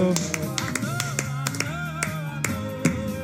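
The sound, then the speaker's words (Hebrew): Rhythmic hand claps from people on their feet in a studio, sharp and fairly loud, landing roughly in time over a steady stretch of music with a sustained melodic voice. “וואו, וואו, איזה שמחה פה באולפן, איזה שמחה פה, וואו, כולם על הרגליים, מוחאים כפיים, וואי, וואי, וואי, מה שקורה פה באולפן.”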